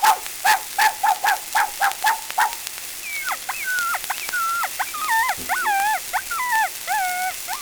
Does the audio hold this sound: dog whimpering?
yes